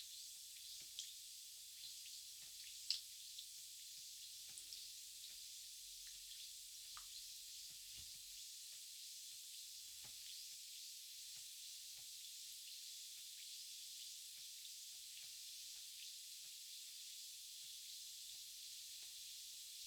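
A steady fizzing hiss with faint crackling pops runs unbroken for the whole stretch, a carbonated bath additive giving off carbon dioxide as it dissolves in hot water for a foot bath; no one speaks.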